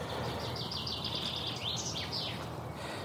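A songbird calls outdoors with a quick run of repeated high, thin chirps followed by a few longer sweeping notes, over a steady low background rumble.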